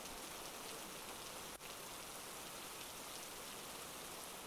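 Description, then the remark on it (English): Steady rain pours down in a dense, even hiss that fills the space without pause, with one brief tick partway through. No voices are heard. “Maybe I just want to stand here and let the rain ruin this dress and not have you analyze every twitch of my face.”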